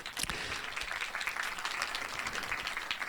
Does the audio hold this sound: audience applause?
yes